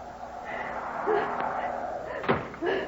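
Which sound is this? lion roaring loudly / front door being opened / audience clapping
front door being opened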